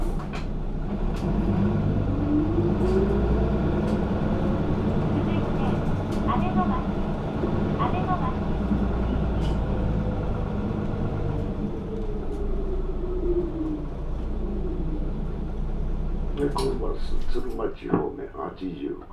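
Steady heavy engine rumble inside a moving Osaka City Bus Co. city bus heading to Tsurumachi in Osaka, with the motor's pitch rising and falling as it accelerates and shifts, plus occasional rattles and clunks near the end.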